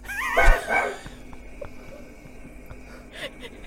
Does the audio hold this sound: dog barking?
yes